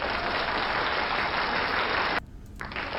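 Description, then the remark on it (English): An audience gives a dense burst of loud clapping for about two seconds, stops abruptly, then starts up again after a short pause, a double round of applause for the announcement of a first sponsor. No one speaks. “Double tap on the clap.”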